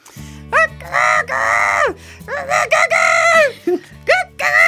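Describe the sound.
A person imitates a rooster crowing three times as a forfeit after an odd dice roll, loud, strained cock-a-doodle-doo calls in quick succession, over a low steady background hum.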